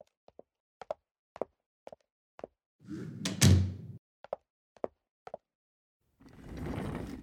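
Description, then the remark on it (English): Footsteps approach, then a door swings shut with a solid thud, followed by a few more footsteps and a soft rushing rustle at the end. “I'll get the door.”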